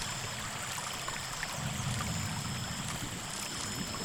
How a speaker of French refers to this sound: Au loin, on entend de l'eau couler. Dans le ruisseau, on entend l'eau clapoter sur les pierres.